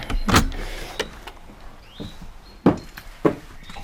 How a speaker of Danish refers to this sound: Og nu står vi foran døren til vineriet. Du låser lige op her.